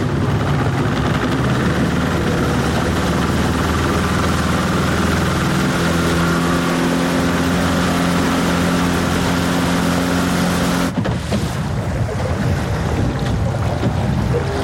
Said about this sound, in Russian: Мотор какой-то, да? А? Мотор какой-то. Это островской наш? А, хрен его знает, что есть. Ну, байдер здоровый.